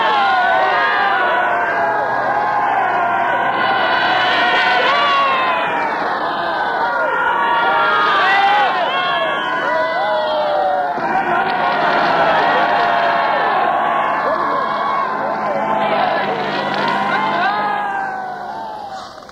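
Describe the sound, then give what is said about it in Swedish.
A large crowd on Kungsgatan cheers and shouts continuously at the news of victory on peace day 1945, hundreds of people leaning out of every office: a dense roar of many voices with rising whoops and calls swelling in waves, loud throughout before easing slightly at the end. “På vartenda kontor sträcker sig hundratals människor ut. Alla jublar och är glada.”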